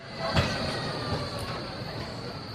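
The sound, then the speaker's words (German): Busy shopping street ambience on Bahnhofstrasse in Zürich, Switzerland, lined with department stores and people hurrying past with full shopping bags: a steady, dense wash of traffic noise dominated by a tram or rail vehicle rumbling past, with a thin high whine and a couple of soft thumps. “Zürich Bahnhofstraße. Hier reiht sich ein Warenhaus an das nächste. Menschen eilen mit vollen Einkaufstaschen vorbei. Es ist hektisch wie immer.”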